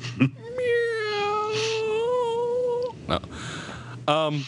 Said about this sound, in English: One of my cats is doing something, making an unusual noise. That's all.